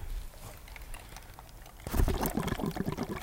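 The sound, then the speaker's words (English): After a quiet start, a burst of bubbling erupts as air is blown through a straw into a glass of water, a steady gurgling churn that continues to the end. “I inspired right there air into my water.”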